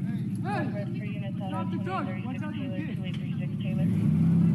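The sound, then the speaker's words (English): A gray pickup truck's engine rumbles steadily as it backs up, growing slightly louder toward the end, while raised voices shout at the driver to stop the truck over the low mechanical drone. “He's in the gray truck pulling over to you guys. Do you want to rest? Yes, he's backing up.”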